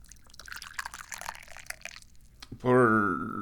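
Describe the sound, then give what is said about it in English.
Tea pours into a cup with a steady splashing trickle for about two seconds, then stops, followed by a brief louder tonal hum. “Dubious goal number one, pour some tea.”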